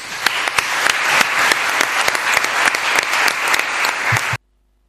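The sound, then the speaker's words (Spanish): A crowd claps for the town council (ayuntamiento) for its effort in obtaining a title. The clapping lasts about four seconds, a dense wash of many hands with sharp individual claps standing out, then the applause stops abruptly into silence. “Así que vamos a darle un aplauso al ayuntamiento por el esfuerzo tan grande que ha hecho para conseguir esta titulación.”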